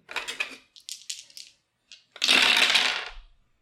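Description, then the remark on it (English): Dice rattle and clatter on a hard tabletop, first in several quick light bursts, then one longer, louder tumbling roll that fades out, with no talking. “Like, doesn't matter how blessed your dice are. I got like a 54.”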